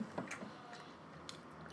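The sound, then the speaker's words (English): A few crisp, crunchy snaps of biting into an apple, followed by quieter chewing sounds. “So let me try the apple first.”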